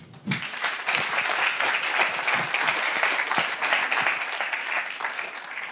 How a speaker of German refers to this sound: Einen herzlichen Applaus bitte.